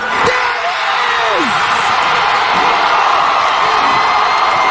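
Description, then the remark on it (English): A basketball arena crowd roars as Caitlin Clark shoots from the logo to become the all-time leading scorer in women's college basketball, in steady, loud cheering, with individual whoops and shouts rising above the dense wall of noise throughout. “This is what it sounded like.”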